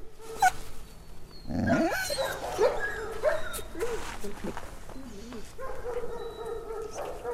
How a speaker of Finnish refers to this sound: tietää, että onko se semmoista hätäistä haukkumista vai tämmöistä niin kuin mikä kuuluu johonkin tiettyyn rotuun, esimerkiksi joku lapinkoira, niin se haukkuu. Toiset ei välitä siitä. Et ne kuitenkin juttelee keskenään, tietää mitä toinen ajattelee.